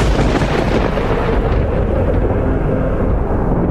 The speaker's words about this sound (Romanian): Numai tunetul cânta adânc ca un proroc al pierzării.